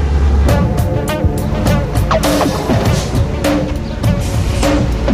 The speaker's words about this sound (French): mais au ras du sol, très concrètement, il y a trois camions italiens qui viennent de passer. Il y en a un quatrième qui passe, un cinquième derrière.